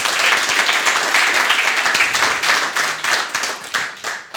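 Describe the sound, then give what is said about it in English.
An audience applauds the speakers after a talk, a steady, dense wash of many hands clapping at once, loud and sustained before thinning out toward the end into a few scattered claps. “Please give another round of applause for our speakers.”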